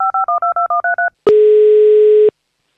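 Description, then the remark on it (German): A quick run of eight telephone keypad dialing tones, evenly spaced beeps in dual pitches, as a phone call is placed, followed by a single longer, steady ringing tone about a second long, then silence. “So, und ich rufe schon das nächste Kind an.”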